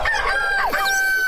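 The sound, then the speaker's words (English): A rooster crows once, loud, its strained harmonic call rising and falling over about a second with no voices around it, played on the 94.3 The Bridge radio station. “Here the rooster crows.”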